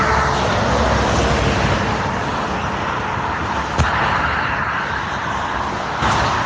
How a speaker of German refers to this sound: Das sind so die Geräusche, die wir den ganzen Tag hören, wenn wir auf dem Seitenstreifen der Autobahn fahren. So hört sich's an. Es ist laut und es ist nicht ungefährlich.